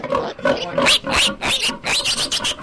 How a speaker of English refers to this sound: Meet Karen and her 10 little curly-tailed bundles of joy. This is our third litter right here since we started a year ago. Mom grunts, and pig though she is, watches us like a hawk.